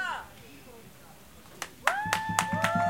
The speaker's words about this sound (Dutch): Applaus.